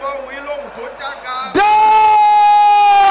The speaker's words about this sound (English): Can I hear you shouting it loud? Sisters, can I hear you roaring like thunder? Brothers, can I hear your voice loud and clear?